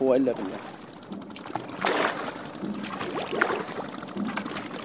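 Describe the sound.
Water sloshes and splashes steadily as a small rowing boat ferries people and goods across the Euphrates River, with oar strokes audible and indistinct voices talking.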